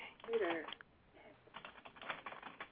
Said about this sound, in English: Anybody just typing away?